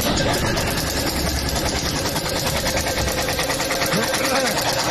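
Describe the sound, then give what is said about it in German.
A wheel being spun whirs and squeaks with a fast, steady ticking rhythm, loud, running continuously for several seconds with a faint rising squeal near the end. “Aber ich finde, wenn das Rad, da bin ich mit WD-40 in der Sprühe.”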